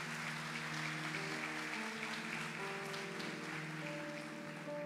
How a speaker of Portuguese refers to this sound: Você pode aplaudir o Senhor, porque é Deus que faz isso.